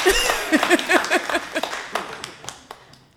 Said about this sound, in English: Y'all can go ahead and clap your hands and say hallelujah.